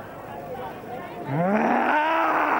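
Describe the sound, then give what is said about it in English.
A man imitates a lion's roar as he is told to move like a lion, a loud, drawn-out growling bellow that swells and holds steady for over a second against a noisy, crowded background. “A big lion. Oh, yeah, move like a lion. If you're a lion, move like a lion.”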